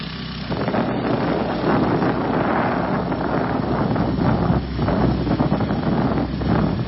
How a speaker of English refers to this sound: This is on the back of the motorcycle. Heading up to a couple of shots of this, just to give you a flavor.